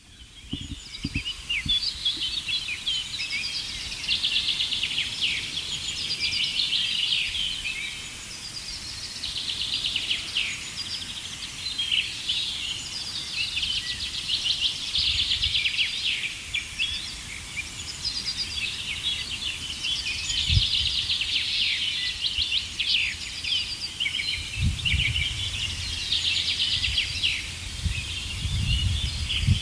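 A dense dawn chorus of many songbirds at sunrise, overlapping high-pitched trills, chirps and warbles blending into a continuous wash of song, with occasional low thumps and rustles beneath and no talking.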